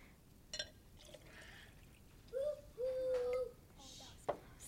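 Liquid pours into a container in two short spells, the second longer, with a faint hollow filling tone. A few soft knocks and clinks sit around it, with no talking.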